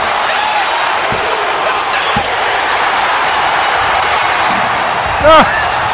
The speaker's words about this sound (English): he's about to wham The Rock with the chair. The sound of the chair. Austin puts him on top. Here comes the count with the crowd.